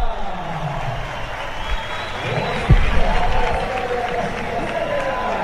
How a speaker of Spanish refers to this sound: pues ovación para Enric Mas, que va a salir al podio